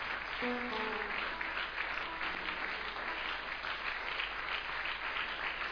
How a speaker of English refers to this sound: Give Jesus a big clap tonight, everybody. Louder yet.